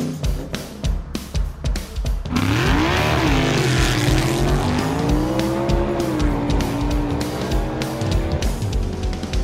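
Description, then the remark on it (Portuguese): A car engine idles roughly for a couple of seconds, then revs hard and accelerates off-road with a lot of dust, driven by Alex Rufo, its pitch climbing and wavering loudly as it pulls away over rough ground; no one speaks. “Bem, meus amigos, e para darmos a largada nesse nosso especial off-road, eu vou pedir para o Alex Rufo já colocar o carro na estrada e acelerar de verdade, né? Com muita poeira.”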